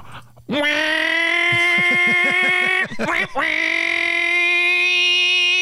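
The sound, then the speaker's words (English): A person imitates the loud modified muffler of a tiny car with their voice, making two long, buzzing, droning blasts, the first with a sputtering rhythmic rumble underneath, separated by a brief break. “I like loud cars and racing, but you're talking about those little dummies with the tiny cars with the modified mufflers on them that make them go...”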